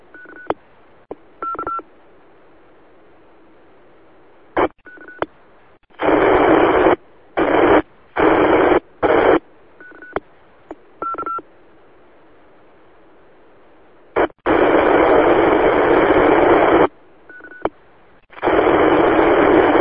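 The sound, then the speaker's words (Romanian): A weak amateur radio transmission breaks through in repeated bursts of loud hissing static, interspersed with short electronic beeps, with no intelligible voice coming through. “Probabil că nu ne ajută nici propagarea la ora asta, ceva nu e în regulă, adică în sfârșit bănesc că asta e, nu poate să fie altceva și nu te putem copia.”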